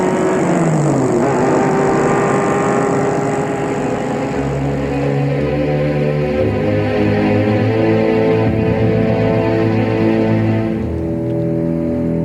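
A car engine roars loudly, its pitch climbing and shifting as it accelerates for several seconds while a man drives off in his car, with no voices over it.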